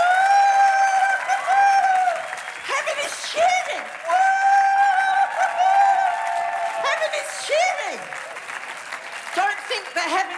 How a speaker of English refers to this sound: Heaven is cheering. Now, if you're sitting down, cheer really loud. And if you're standing, give yourself a really good clap.